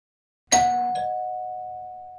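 A doorbell chimes with two bright, bell-like tones in quick succession, the second ringing on as a steady, slowly fading note. No voices are heard.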